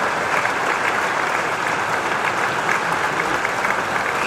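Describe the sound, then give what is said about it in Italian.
An audience claps steadily for several seconds, a dense, even wash of many hands with no pauses and no voices standing out, applauding to thank Monsignor Tomáš. “Adesso gli diciamo tutti bravo, perché è stato bravo, e gli facciamo un applauso.”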